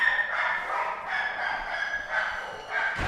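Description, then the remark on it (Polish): Many dogs at an animal shelter housing about 490 dogs bark and yip together in a continuous, overlapping chorus, a busy kennel din that stays steady and moderately loud, with no voices. “Tutaj w schronisku macie państwo dużo psów?”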